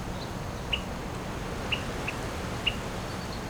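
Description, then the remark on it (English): Brief high-pitched buzzy notes from a male bird diving at a caged female on his territory, at the Kern River Preserve on June 5, 2007, flick out four times at uneven intervals, small, over a steady background hiss with no talking. “He was definitely making bzzz noises at either end of the dives, like at the apex where he'd rise up and turn around”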